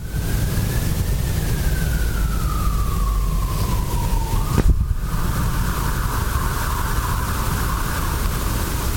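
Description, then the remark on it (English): An emergency vehicle siren wails steadily, its tone sliding slowly downward before jumping back up, heard continuously over a loud rumble of traffic noise with no one speaking. “And even though the sirens are blaring, there's nothing of emergency about us and what we are exploring and doing.”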